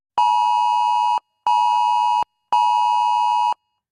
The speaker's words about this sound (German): So klang es am Vormittag aus vielen Handys. Beim bundesweiten Warntag in Deutschland sind die Warnsysteme für den Katastrophenfall getestet worden.